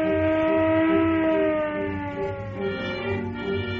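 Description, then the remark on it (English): A Los Angeles police car siren wails loudly and steadily as the car speeds through downtown streets, its rising and falling tone sweeping without pause, with a low engine rumble underneath and no voices. “While traffic at one of Los Angeles' busiest intersections is jammed with a morbidly curious mob, car 11 screams through downtown streets.”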